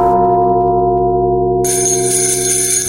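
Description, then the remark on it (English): Bells play the carol Ding Dong Merrily on High, loud, with sustained ringing tones layered over one another and a brighter, shimmering texture joining partway through. No one speaks. “That's the magic of ….”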